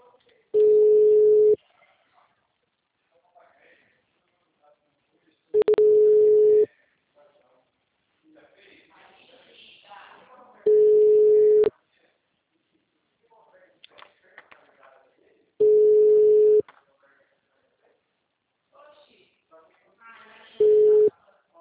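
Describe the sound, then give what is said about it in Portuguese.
A phone line rings out unanswered: five steady, mid-pitched ringback tones, each about a second long, repeat every five seconds, with faint murmured speech in the gaps between them. “Cara, Diego não atende.”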